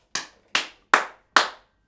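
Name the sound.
hand clapping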